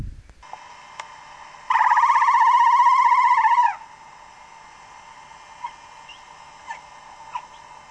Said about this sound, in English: So that sound came from one of five whales that was swimming underneath us, and shocked me so much that I stopped in mid-water.